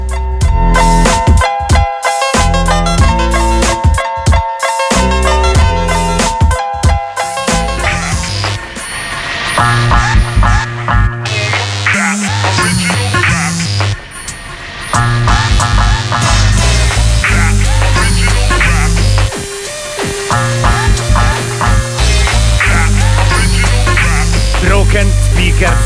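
A hip-hop track starts with choppy, stuttering bursts of beat, then settles into a loud, steady groove with deep bass and bright layered synths, pausing briefly twice before kicking back in.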